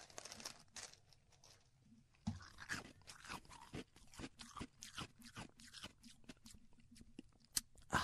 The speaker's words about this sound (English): Okay, close. Pretty close. Chewing ice. Pretty annoying, is it? Yeah. Pretty damn annoying.